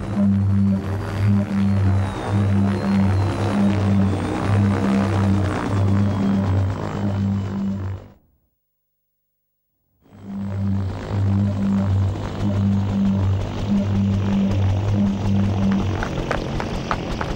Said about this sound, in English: Stop the helicopter!